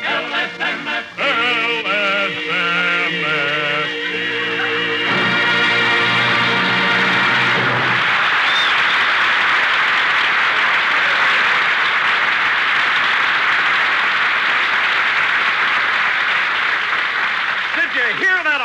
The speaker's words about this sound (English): Don, I don't care if they applaud all night. Opera has no place on this program.